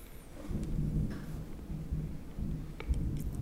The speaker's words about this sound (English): Thunder. That's KJ. It was a stormy time.